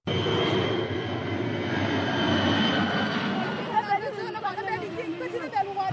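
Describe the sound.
A loud, steady engine drone from a heavy WFP-chartered cargo propeller plane airdropping sacks of sorghum over Kandak village, Ayot County, roars overhead, then eases as a crowd's indistinct voices and shouts rise in the background.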